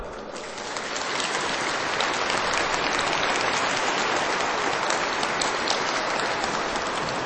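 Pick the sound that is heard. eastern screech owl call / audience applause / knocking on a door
audience applause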